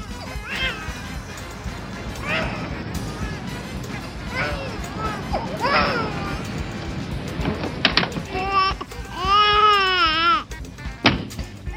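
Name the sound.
baby crying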